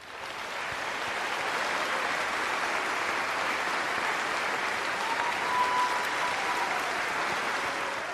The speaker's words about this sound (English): So please help me welcome again these patriots with a grateful nation's round of applause.